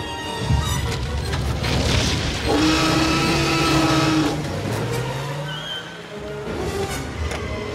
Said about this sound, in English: Start the engine.